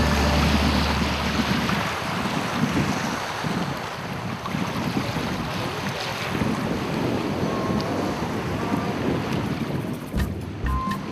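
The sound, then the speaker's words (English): A small motorboat's engine drones steadily on open water at Mkotoni, a small fishing port, with wind buffeting the microphone and waves splashing throughout; no one speaks. “The small sailboats or motorboats are used to move passengers or food from the neighboring islets to Unguja or Zanzibar.”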